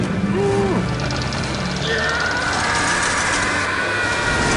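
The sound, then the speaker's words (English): A car engine runs loudly and steadily, a continuous rumble with a rising whine and brief tonal shifts layered over it. “Nice ride. But instead of going green, have you seen the engine?”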